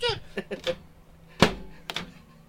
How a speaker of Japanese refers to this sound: 電子レンジの蓋。